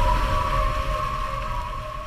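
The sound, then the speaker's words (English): A steady, high-pitched whine from a hydrofoil boat's foils holds one unwavering tone over a low, continuous rumble of water and hull noise, fairly loud, with no voices. “these hydrofoils have their own acoustic signature.”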